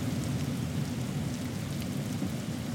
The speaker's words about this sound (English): Well, that rain sounds like it's inside the car. It should be hitting the car. God. It's just a different sound.